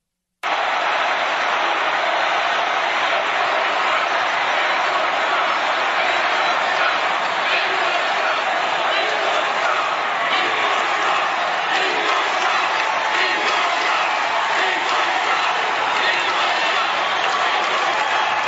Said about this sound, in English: And Ted Cruz didn't do that. And that resulted in some booing.